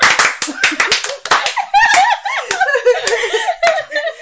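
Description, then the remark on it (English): Scattered, out-of-sync hand claps from a group who say they are drunk crack irregularly at the start, then thin out as the group bursts into giggling and chattering laughter, with a few stray claps still popping through. “None of your clapping is together.”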